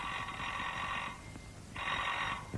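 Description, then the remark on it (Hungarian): A telephone rings in two long bell bursts separated by a short pause, bright and insistent, with a low rumble of background noise and no voices. “Nagyságos úr, kérem, telefon.”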